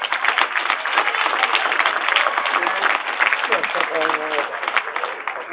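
A crowd applauds steadily to greet a speaker, a dense patter of many hands clapping without pause, with a few voices briefly audible through it near the end.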